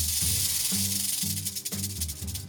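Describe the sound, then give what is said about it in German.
A snake hisses steadily and loudly to scare off an enemy, a harsh airy rush that swells and eases over a couple of seconds, with a faint low background hum underneath. “Schlangen können zischen oder fauchen, um den Gegner abzuschrecken.”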